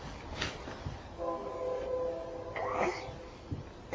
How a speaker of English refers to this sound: Hear the train whistle. Choo-choo.